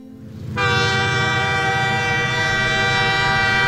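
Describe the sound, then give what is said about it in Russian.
A low rumble of a passenger train bound for Moscow at a railway station, departing at midnight, then a loud, sustained horn blast cuts in and holds steady to the end, dominant over the background. “Мы провожали Еву на московский поезд”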